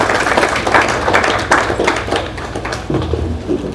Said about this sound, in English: Well, it really wasn't that good of a clap. It's like you all had mittens on.